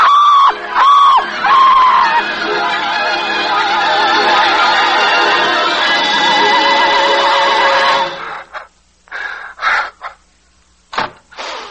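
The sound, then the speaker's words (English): A man screams in terror, a loud, drawn-out, wavering cry lasting several seconds, followed by a few shorter, sharp outbursts separated by brief silences. “She heard you scream.”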